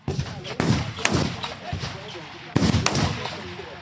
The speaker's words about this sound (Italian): I colpi di fucile arrivano a intervalli irregolari, poi nell'aria si fa largo l'odore dello sparo, un misto di polvere bruciata e grasso per armi.